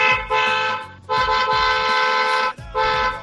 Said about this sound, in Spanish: puso en YouTube sonido de un claxon para decir que estaba dentro del coche